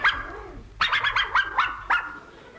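A dog whines briefly, then lets out a quick run of about six high, yappy barks in close succession, fairly loud, with no talking.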